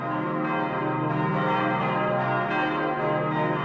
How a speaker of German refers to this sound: Und dann haben wir noch eine historische Glocke aus dem 15. Jahrhundert. Genau, also die passt auch nicht so zum bestehenden Geläut. Und unser Geläut eben zeichnet sich daraus aus, eben weil es einfach auch sehr singfreudig auch ist.